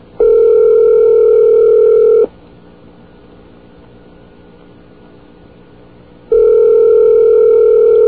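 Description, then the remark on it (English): A telephone ringing on a call to a phone company supervisor: two long, steady, mid-pitched electronic rings separated by a pause of about four seconds, with the second ring cut off at the end. No one speaks. “One more ring she gets.”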